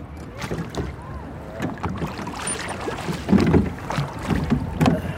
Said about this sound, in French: Là-bas, c'est très joli parce qu'il y a une petite famille à bord d'une barque. Et avec les enfants, on va ramer sous les cerisiers, tu vois. Il s'agit de se mettre sous les branches basses et de se faire tomber des pétales dessus, quoi.